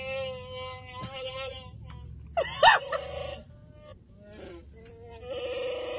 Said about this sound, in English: So it recognizes that, and it does the Chewbacca, whatever that is, roar, whatever Chewbacca, roar, whatever he does.